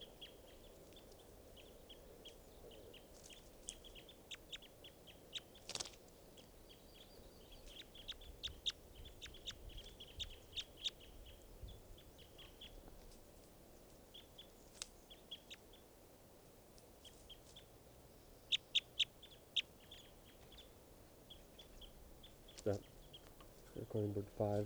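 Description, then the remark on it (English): Faint calls of bird 515, being recorded, repeat throughout: short, high-pitched chirps scattered irregularly, some in quick pairs or clusters, over a steady low rumble of background noise. “So recording now bird 515.”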